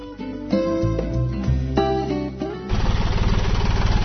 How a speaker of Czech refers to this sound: Da li možete da isključite traktor?